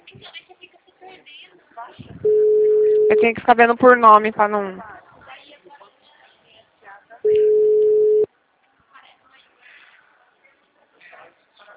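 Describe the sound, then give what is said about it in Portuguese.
A phone line rings unanswered: two steady, one-second electronic tones several seconds apart, fairly loud and clear, with people talking quietly in between and around them. “Nossa, carioca não tá querendo atender o telefone, né?”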